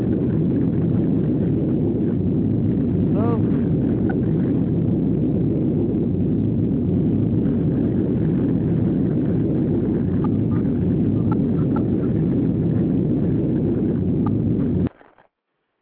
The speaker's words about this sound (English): Oh. That was a long ass explosion